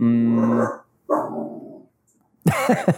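A dog barks excitedly: a long, loud bark, a rougher second one, then a quick burst of three sharp barks after a short pause.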